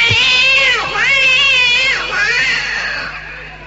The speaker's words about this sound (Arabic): بيبص لقى الصنيع ناقص نصه، بيبص جنب الصنيع لقى القطه بتتألم بتموت.